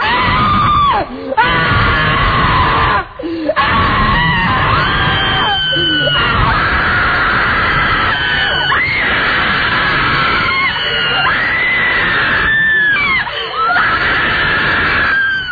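people screaming

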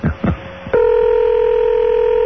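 telephone keypad dialing tones

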